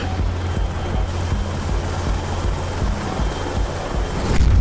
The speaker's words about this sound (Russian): У него и вертолеты есть. Кажется, американский Апач.